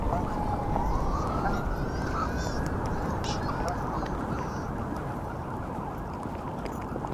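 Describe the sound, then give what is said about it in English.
Swans call with drawn-out, honking notes that rise and waver above a dense, steady wash of background noise, continuing throughout. “I can hear the swans and the splash of water.”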